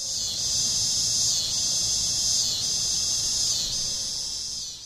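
A loud, continuous high-pitched buzzing drone of cicadas singing in trees in summer, swelling and easing in slow waves about every second, with no voices present.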